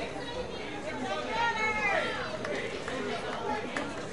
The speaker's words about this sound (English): Crowd getting a little rambunctious here at the Dean.